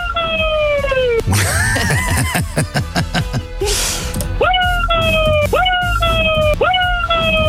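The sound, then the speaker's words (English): A cat lets out loud, repeated wailing yowls that rise and fall like a police siren, the sliding cries coming in quick succession with a burst of noisy commotion midway through. “He turned into a police car.”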